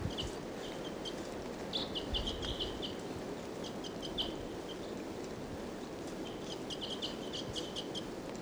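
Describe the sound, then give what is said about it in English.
Repeated short, high-pitched calls of a wild female bird come in bursts over a steady, broad background rush like wind or running water; no one speaks. “Wild and 745 calling. Wild. Wild.”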